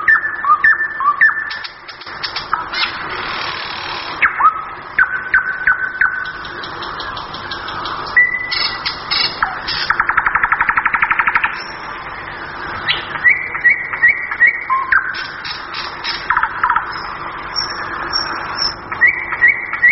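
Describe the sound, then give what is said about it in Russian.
A nightingale sings clear, running through varied phrases of sweet whistles, rapid trills and repeated chirping notes with brief pauses between them, alone with no voices. “Я предпочитаю соловья, чтобы песня была у него разнообразная, нерезкая, нежная.”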